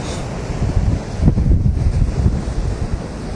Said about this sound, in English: Okay, I'm outside here. You can smell the salt air. Okay, you can feel the ocean. It's very windy. Oh, wow, look at that. Okay, look, there's the person. Look at the size of those waves.